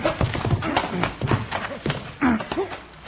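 Horse hooves clip-clop in an uneven, shuffling rhythm, a string of sharp knocks on hard ground with brief vocal sounds mixed in.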